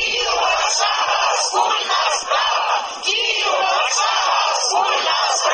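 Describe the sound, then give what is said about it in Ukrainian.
A large crowd of over 1000 Ukrainians and Poles marching on Sunday through the main squares and streets of Warsaw, in solidarity with Kyiv's Euromaidan, shouts slogans in unison, a loud, dense roar of voices rising and falling in a steady chanting rhythm throughout. “Такі вигуки лунали в неділю на головних площах і вулицях Варшави.”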